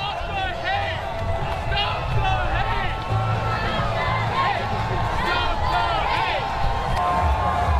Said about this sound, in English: Amidst a sea of rainbow flags and signs with the hashtag #WeAreOrlando, a contingent wearing white veils on the march held up portraits of people murdered in Orlando, chanting Love Trumps Hate.